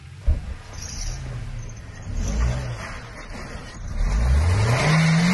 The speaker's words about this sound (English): His car gets stuck in a snowbank. That sound that you hear right here, and if you're familiar with this sound, you know it is the worst sound. It's him spinning his wheels when he's stuck in the snow.